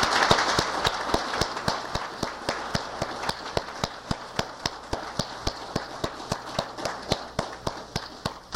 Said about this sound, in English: Every person here that was one of those original 72 members, and let's give God a great round of applause for their faithfulness.